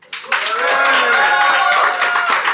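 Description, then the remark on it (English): A live audience in Phoenix applauds to vote on which side is in the right, a steady patter of clapping mixed with a murmur of voices and some laughter, starting abruptly and holding at an even level throughout. “So instead, I'm going to allow our live Phoenix audience to make the call.”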